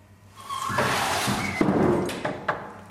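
A door in the test arena of an animal research facility slides open to let a pig through during a cognitive bias experiment. It opens with a rising scrape and rush of friction, followed by a few sharp clacks and thumps as it moves along its track, moderately loud.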